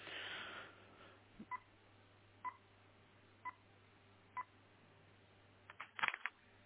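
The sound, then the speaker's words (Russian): A phone number dialed on a keypad: four short, evenly spaced touch-tone beeps over a low steady hum, followed by a brief burst of clicking and rustling at the end. “Сейчас, минутку я наберу, сейчас.”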